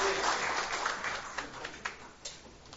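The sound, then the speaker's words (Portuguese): An audience at a civic ceremony applauds for the city of Uruguaiana in a dense, steady burst of clapping that gradually thins out, leaving a few scattered, sharper individual claps at the end. No one speaks over it. “Bem forte as nossas palmas para a Uruguaiana.”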